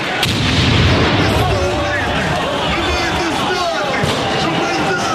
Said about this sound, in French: Une grenade fait des ravages parmi les rangs des policiers. Bilan 3 morts et plus de 140 blessés.